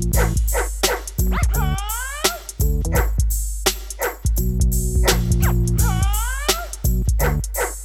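A dog barks loudly and repeatedly in short, quick bursts, with some high, rising yelps mixed in, set against steady sustained tones underneath.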